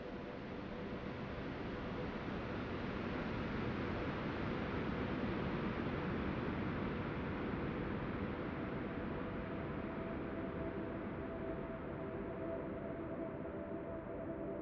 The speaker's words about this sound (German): Du bist vollkommen im Hier und Jetzt, getragen vom sanften Rauschen der Wellen.